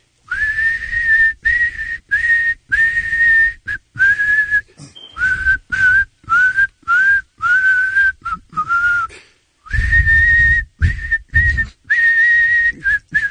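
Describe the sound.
A person whistles a song melody alone, a clear melody of short phrased notes with brief breaths between them, steady and fairly loud throughout.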